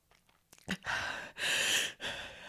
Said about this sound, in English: gasping for air. I can feel my face turning red.